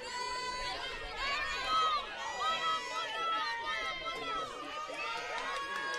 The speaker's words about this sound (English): The crowd in full throat here.